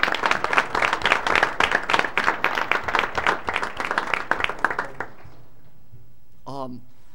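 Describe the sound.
A burst of audience applause congratulating a Distinguished Service Award recipient, many hands clapping steadily for about five seconds before fading out, followed by a brief faint voice at the end.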